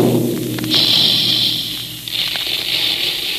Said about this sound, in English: That's the sound you hear when the big Quaker guns are making puffed wheat and puffed rice. By this special Quaker process, the hard little kernels of sun-ripened wheat and rice are exploded into plump, crisp, delicious Quaker puffed wheat